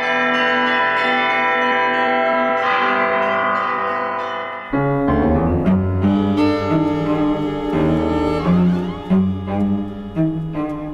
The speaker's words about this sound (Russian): звонаря музея Коломенское, колокольного мастера-изобретателя, записала Тамара Левенкова.